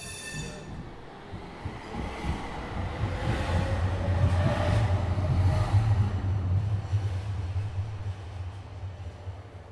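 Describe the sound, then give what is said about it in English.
Interior of a moving city tram on Corso Regina Margherita, crossing Via XX Settembre: a steady low rumble of wheels on rails with a droning motor hum, some metallic squealing, and faint background murmurs, continuous throughout. “Only a few more stops to get there.”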